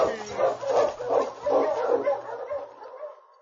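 Sled dogs bark and yip in a rapid, excited run of overlapping barks, fairly loud, trailing off toward the end.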